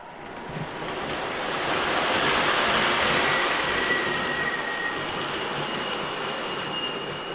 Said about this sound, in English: I actually had a subway train on the upper level, too, for testing.